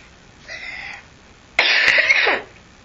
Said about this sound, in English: Oh my goodness, lots of coughs.